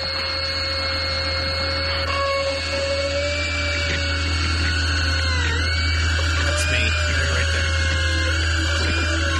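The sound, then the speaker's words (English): A dental drill drilling into a healthy tooth whines at a high pitch, loud, its tone dipping and wavering now and then as it bites, running continuously for about nine seconds without any talking. “So, I'll just drill into a healthy tooth until I reach the pulse.”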